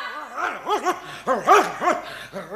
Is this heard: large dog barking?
yes